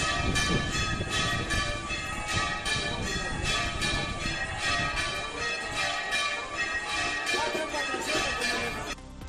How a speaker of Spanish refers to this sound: En 1953 sonaron por primera vez estas campanas.